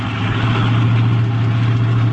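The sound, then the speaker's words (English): A car engine idles steadily in traffic while the driver looks for a place to park, a constant low rumble with a droning hum that holds even and loud throughout, with no voices. “I'll find a place to park,”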